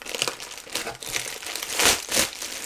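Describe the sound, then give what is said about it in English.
Plastic wrapping crinkles and rustles continuously as a package is opened with a pair of scissors, with bright crackling bursts swelling louder twice near the end. No one speaks. “This package open.”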